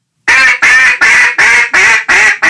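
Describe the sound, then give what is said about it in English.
A duck hail call: seven loud, raspy single quacks stacked one after another in a quick, steady rhythm, each higher in pitch and louder than the next, clear with no other sounds or voices. “And then when he goes into a hail call, it's actually single quacks kind of stacked together, but then he's using an inflection where the first one is higher pitch and louder than the second one and so on.”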